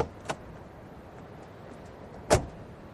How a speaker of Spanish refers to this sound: Cuando salíamos del ministerio, relativamente satisfechos, vimos un auto que se detenía en la puerta y de él bajaba el ministro.